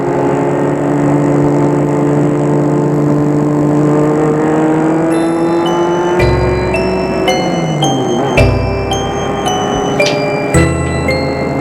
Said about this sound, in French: Puis, la voiture prend le périphérique et sort de Paris. La voiture roule, roule, roule. Il n'y a pas de circulation.